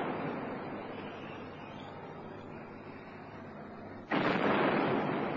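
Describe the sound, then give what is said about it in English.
Artillery fire from German shore batteries: a steady, dull roar of noise gives way to one abrupt, much louder blast that keeps roaring afterward, with no voices present. “Then the German shore batteries opened up.”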